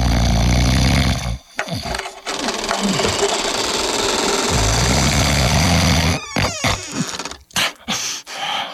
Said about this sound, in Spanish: Su esposo roncaba sonoramente.